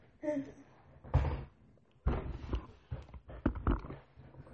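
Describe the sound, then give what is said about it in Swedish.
A chair creaks and knocks as someone shifts in it, with a squeaky groan followed by a series of irregular thumps and bumps. “Alltså, din stol låter. Kan du sitta still?”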